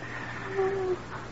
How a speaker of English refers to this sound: She's still breathing.